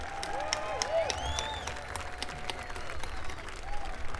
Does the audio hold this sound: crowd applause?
yes